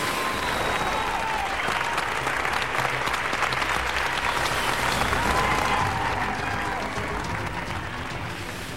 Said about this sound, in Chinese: 鼓掌声和欢呼声都已经震耳欲聋了。